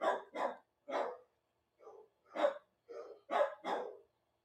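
Dogs bark in a rapid, uneven volley of about eight sharp barks, some coming in quick pairs, with short gaps between bursts and no voices over them.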